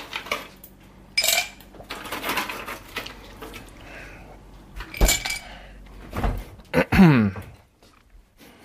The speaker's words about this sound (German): Ja, die Eiswürfelmaschine. Ein sehr gerne gehörtes Geräusch.